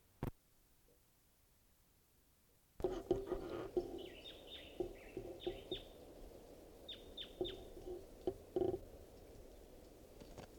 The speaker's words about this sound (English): Stop recording the wild bird.